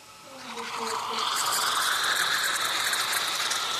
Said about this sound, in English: A hydrogeologist inside the station opens up a valve in the pipe and pours out some Borjomi into a cup.